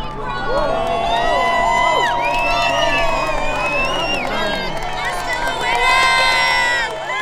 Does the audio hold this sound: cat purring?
no